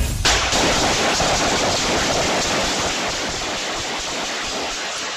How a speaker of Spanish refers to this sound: Este es el aterrador sonido de más de 30 disparos en plena calle. La policía reveló un video que muestra el auto Audi color negro que usaron los pistoleros que atacaron en Cincinnati, Ohio.